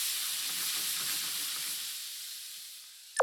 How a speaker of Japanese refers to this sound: 豚肉に美味しそうな焼き色がついたらひっくり返して、そこに豚肉を漬けといた漬けだれを加えていきます。漬けだれを入れたら煮絡めるようにして豚肉にしっかり中まで火を入れていってください。